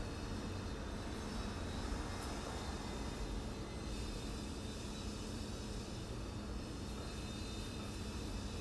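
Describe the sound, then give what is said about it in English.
A steady, continuous roar like an airplane or helicopter engine droning overhead, amid cars and construction, holding at an even level throughout with a faint high whine on top and no voices. “Cars, construction, possibly an airplane or a helicopter.”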